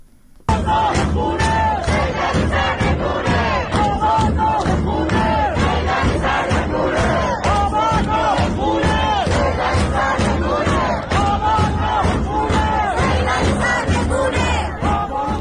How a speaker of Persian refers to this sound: الان صدای یکی از این اعتراضها رو در منطقه صادقیه تهران میشنویم.